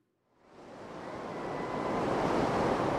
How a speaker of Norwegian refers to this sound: Solen skinner. Vi kan høre sus fra bølger. Folk som bader, surfer eller nyter en avslappende stund langs strandkanten. Vi befinner oss på en strand i Cape Town, en av hovedstadene i Sør-Afrika.